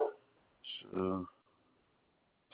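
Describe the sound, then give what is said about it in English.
A dog gives a single loud bark, preceded by a brief sharp yip, then all falls quiet. “Be quiet, boy. Stop with all that barking.”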